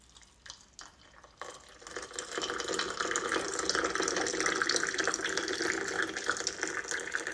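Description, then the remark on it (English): Water pours steadily into a cup, starting with a few splashy spurts and then settling into a continuous filling rush that grows fuller over several seconds, with no talking. “It's time now to go back to my positivity and pour the water out into the cup.”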